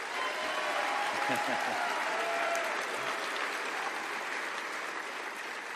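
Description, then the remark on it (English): Sustained applause from a large crowd for the San Francisco Fire Department's 136 Academy recruit class, a dense steady wash of clapping that stays loud throughout, with a few faint voices and whoops mixed in. “Well, let's have one more big round of applause for the 136 Academy.”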